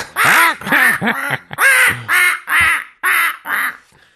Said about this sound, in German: Der hat mich immer am meisten genervt bei den 3 Fragezeichen, dieser Papagei. Mhm. Folge 1, die 3 Fragezeichen und der Superpapagei, ne?